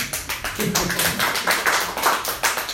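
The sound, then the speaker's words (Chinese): Enthusiastic sympathy applause from a group, a dense, steady patter of many hands clapping at once, fairly loud and sustained, with no one speaking over it. “讲到同情的掌声，也拍得这么高兴，同情呢？”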